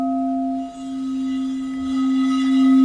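A singing bowl being rubbed around its upper rim with a large stick, producing a steady, sustained ringing drone with a strong low fundamental and shimmering overtones that swell slightly louder toward the end.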